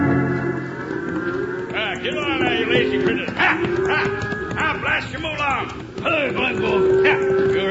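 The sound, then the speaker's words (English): A herd of cows being driven to Dodge City lows and bellows in overlapping calls, with hooves clopping underneath and a dog barking now and then. The whole scene is busy. “These are my cows, and I gotta get them to Dodge City before Toby Tyler drives his in.”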